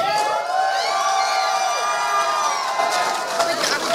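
A large audience cheers and hollers loudly and steadily, with whistles and clapping mixed into a dense, sustained wall of crowd noise lasting the whole stretch.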